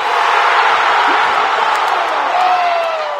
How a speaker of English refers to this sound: 20,000 people went nuts when Kimball Walker drained a three-pointer to finally tie the game